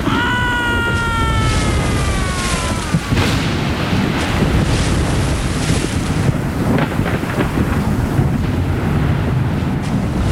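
Loud, constant storm wind roars over heavy, churning sea waves, with a brief high whistling whine in the first few seconds; no voices, just a dense wall of noise.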